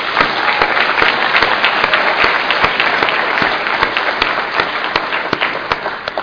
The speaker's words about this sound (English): And I know there's a lot of work goes into it. And, you know, I think that they just deserve a bit of applause for doing this thing.